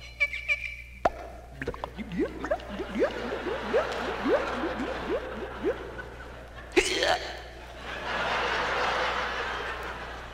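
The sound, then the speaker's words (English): A voice, using only sounds in the throat and no props, into a stock Shure Brothers microphone, imitates a cork popping, then makes a quick run of rhythmic, bubbly gurgles like liquid glugging from a bottle, finishing with a sharp burst and breathy hiss, fairly loud. “Water gurgling when you pull a cork out of the bottle.”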